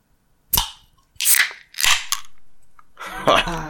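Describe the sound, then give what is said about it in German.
A bottle of Astra Rotlicht beer is opened: three sharp, bright clicks of metal on glass, then a sustained fizzy hiss as the cap comes free and the carbonation escapes. “Ja, ich habe mal wieder Astra Rotlicht. Und das mache ich jetzt erstmal auf.”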